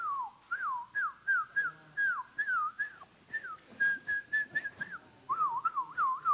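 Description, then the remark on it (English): A person whistles a lively, warbling tune of quick repeated notes with bending pitch. The whistling is fairly clear and runs continuously for several seconds with no talking. The person is whistling at someone during a pastor's call to come forward in a church service. “… would look at the unsaved person and start whistling.”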